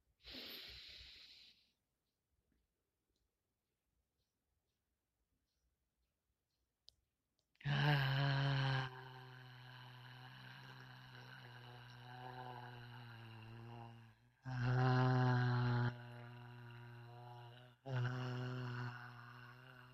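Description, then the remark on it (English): One breathy exhale, a pause of silence, then long, loud voiced sighs of "ah" through the mouth with a steady low pitch, three sustained out-breaths in a row, as in a guided conscious breathing exercise. “Thank you for taking the time for yourself, conscious breathing exercise, being current here now.”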